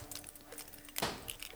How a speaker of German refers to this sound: Sie verharrte im Türrahmen und spielte mit ihrem Schlüsselbund.